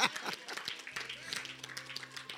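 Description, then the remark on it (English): An audience claps for the Lord Jesus in a dense, steady patter of many hands, fairly quiet, with a low sustained hum running underneath from about halfway through. “Clap for the Lord Jesus.”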